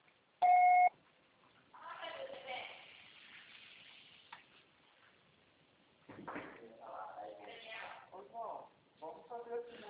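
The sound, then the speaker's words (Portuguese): After a Portuguese voicemail prompt, a beep sounds once, a short, loud, steady mid-pitched tone, then after a brief pause a woman, a finance consultant, begins speaking about an FGTS withdrawal, with a gap midway before the talking resumes. “Grave seu recado agora.”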